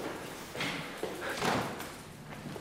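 door opening

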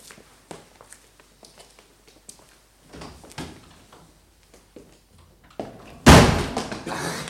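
door opening and closing

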